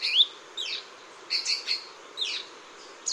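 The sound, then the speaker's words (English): A saberwing hummingbird gives a string of sharp, high chirps, six or seven short calls in uneven bursts, over a quiet background hiss with no voices. “Biologists are now trying to understand the size and location of the saberwing's remaining populations.”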